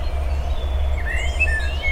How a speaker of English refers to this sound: There's a bird calling.